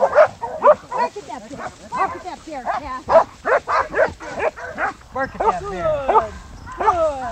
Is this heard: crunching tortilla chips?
no